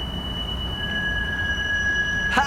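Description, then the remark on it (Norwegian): A tram's wheels squeal on the rails, a steady high-pitched whine over a low rumble of rolling, ending in a brief rattling clatter, with no voices. “Hei, dere på trikken, dere er elite”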